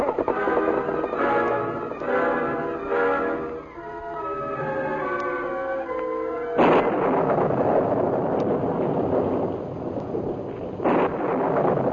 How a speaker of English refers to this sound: One of the worst storms in the history of Dakota Territory swept across the Badlands that night. In the beginning, it was a fine rain.